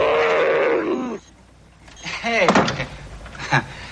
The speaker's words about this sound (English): When you open the door, it growls at you and is supposed to startle you.